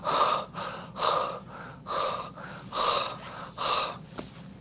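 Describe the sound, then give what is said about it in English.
A voice imitates a runner collapsing after a race with heavy, exhausted panting: about five loud, breathy gasps in a steady, labored rhythm, with no talking. “And he collapses, panting.”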